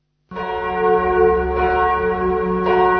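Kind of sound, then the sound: ambience, church bells ringing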